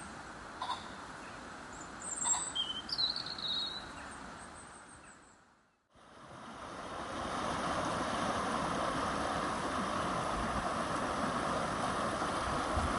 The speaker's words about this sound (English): The river over which the seven bridges span is the Skell. It meanders its way down through the Fountains Abbey and Studley Royal Estate to meet the River Yore in Ripon.